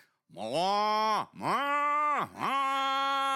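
Cows ready to be moved to pasture moo three times in quick succession, long, loud, low bellowing calls with rich harmonics, each swelling and then dipping briefly before the next begins. No one speaks.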